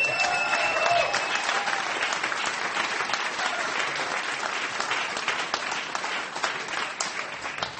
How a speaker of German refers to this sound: Aber ich freue mich wirklich mit großem Applaus.